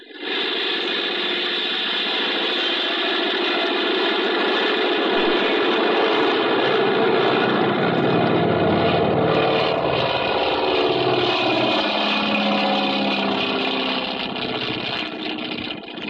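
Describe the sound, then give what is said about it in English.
A small plane's engine roars steadily and loud, a dense droning buzz that holds strong throughout as it revs for takeoff, with no voices heard. “Well, I guess we can take off. Here we go.”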